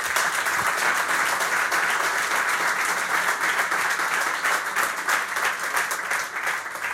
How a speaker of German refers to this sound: Den Applaus hätte ich auch gespendet, der ist verdient, ja, weil ich sehe das tatsächlich so.